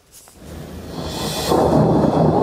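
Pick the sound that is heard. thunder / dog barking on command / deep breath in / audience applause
thunder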